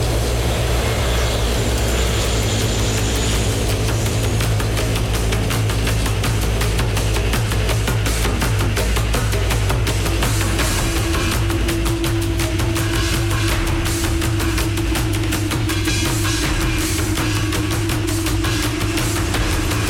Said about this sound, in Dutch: Dit vliegtuig is gecharterd door Ronnie Brunswijk. We zijn op weg dus zometeen naar zijn concessies waar hij ons gaat rondleiden.